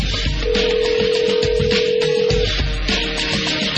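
A telephone ringback tone heard over the line while calling a cell phone: a steady two-second ring, a short pause, then the ring starts again, set against a constant hissy background with no one talking.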